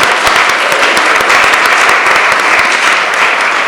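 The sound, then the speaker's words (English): An audience applauds a discussion panel at the end of an event, a dense wash of many hands clapping at once that holds loud and even throughout, with no voices standing out. “Maybe a warm hand of applause for all of them.”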